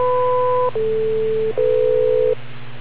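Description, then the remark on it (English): Three steady electronic beeps on a radio link play one after another, each holding a single pitch for under a second, stepping from one level to the next over a constant low hum. “Wait for the three beeps.”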